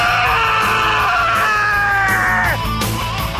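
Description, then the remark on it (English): A loud, piercing Wilhelm scream sound effect, one drawn-out cry that slides downward in pitch for about two and a half seconds over a low, steady rumbling background. “Is that a Wilhelm scream?”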